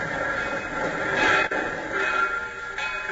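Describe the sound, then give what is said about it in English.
A train rolls into a station in Carbondale, Illinois, past midnight, a steady rumble with a thin metallic squeal riding over it and a brief clunk midway, with no voices. “It is past midnight as his train pulls into Carbondale, Illinois, some 20 miles from the Logan home in Marion.”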